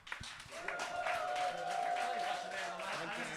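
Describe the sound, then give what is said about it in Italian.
Audience applause, a dense, steady wash of clapping for a few seconds, with a sustained whistle-like tone riding over it partway through and some crowd murmur underneath. “Un applauso.”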